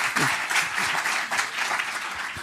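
An audience applauds steadily for a little boy helping in a science demonstration, a dense wash of many hands clapping at an even, fairly loud level throughout, with no voices standing out above it.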